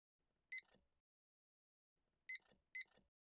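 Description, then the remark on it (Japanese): Three short electronic beeps from a timer being set for a nude drawing session, one alone followed by a quick pair after a pause, clear with quiet in between. “じゃあタイマーセットしますね。”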